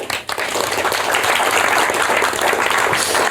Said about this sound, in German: Deswegen ein herzlich willkommen und Applaus.